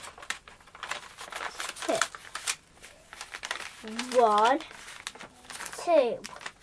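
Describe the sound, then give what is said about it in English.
Paper crinkles and rustles in a steady run of crisp, irregular crackles as it is folded and handled to make a paper boat, with a couple of brief high voices breaking in between. “So you do lots of folding, do you, to make a boat?”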